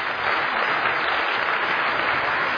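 An audience claps steadily to greet a speaker as he comes to speak in the first session, a dense, even wash of many hands with no breaks or speech, holding at a constant loud level throughout.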